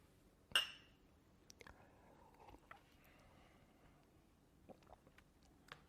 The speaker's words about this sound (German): Ich glaube, unser Getränk schmeckt uns nicht. Lass uns nochmal anstoßen.